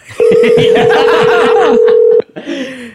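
A loud, steady telephone tone holds one mid pitch for about two seconds as people try to call someone again, with laughter and chatter underneath, then people keep laughing and talking after it stops.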